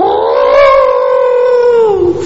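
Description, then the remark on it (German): A person imitates an elephant's roar with a single loud, drawn-out trumpeting wail, held steady for about two seconds before dropping off at the end, alone. “Und in diesem Augenblick, als er fast den Dschungelrand berührte, hörte er das Brüllen des Killer-Elefanten.”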